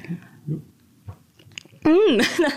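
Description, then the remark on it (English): Soft, squishy chewing of a jelly-like 3D printed raspberry, a few muffled moist bites, followed by a loud, wavering voiced hum of reaction. “Okie dokie, I'm going to try my first ever 3D printed raspberry.”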